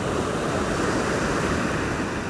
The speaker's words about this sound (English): Let's just breathe in tune with the ocean. If you listen closely, you'll hear the ocean and the rhythm of the ocean's breath.